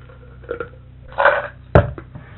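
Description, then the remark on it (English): Someone crunches food while chewing: a few soft crackly bites, a longer grinding crunch, then one sharp, loud snap followed by a smaller crack. No one speaks. “no, I'm just crunching on it.”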